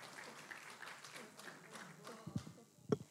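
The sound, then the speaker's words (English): An audience applauds steadily, a dense patter of many hands clapping at moderate volume, with a couple of louder low thumps near the end. “you a round of applause.”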